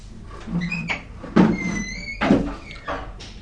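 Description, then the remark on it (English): A door swings shut, its hinge squeaking between two solid thuds, with a softer bump trailing after. No one speaks. “Tell me to close the door.”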